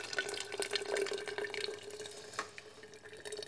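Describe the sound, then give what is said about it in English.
Coffee from a French press pours steadily into a blender, a continuous splashing trickle with faint dripping, fairly quiet, with no talking. “Okay, pouring it into the blender.”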